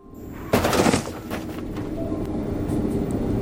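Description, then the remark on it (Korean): A subway train rumbles in from a distance toward a station platform, a sudden loud burst giving way to a steady, growing roar of rolling wheels and machinery with no voices present. “저 멀리서 지하철이 들어오고 있었고 난 있는 힘을 다해 그를 안아 달려오는 전철로부터 아슬아슬하게 그를 구해냈다.”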